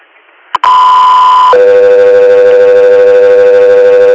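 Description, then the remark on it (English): After a sharp click, a loud steady electronic tone sounds for about a second, then drops to a lower sustained tone that holds to the end; radio dispatch alert tones with a slight buzzy texture. “Stand by for tones.”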